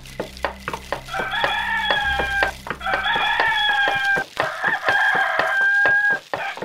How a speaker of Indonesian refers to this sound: Dan ayam jantan pun berkokok bersautan. Tanda fajar telah menjelang.